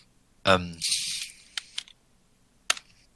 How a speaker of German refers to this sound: gib mir mal bitte einen vierseitigen Würfel.